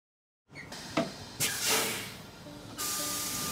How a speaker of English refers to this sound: Boarding now. I'm on a city bus with … to talk about a civil rights pioneer.